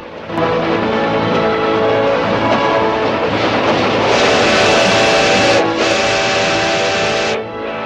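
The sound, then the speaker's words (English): A steam train thunders past across farmland dotted with trees, a loud, continuous roar of rumbling and clatter, with a brighter hissing, whistle-like tone swelling in the second half before easing off. “the red-haired Monk Claxton looks up from the shade of a nearby tree as the steam train thunders past”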